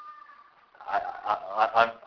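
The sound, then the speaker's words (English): Birds call noisily outside: after a quiet moment, four harsh, honking cries ring out in quick, uneven succession, fairly loud. “I don't know about other birds, they're very making lots of noise at the moment.”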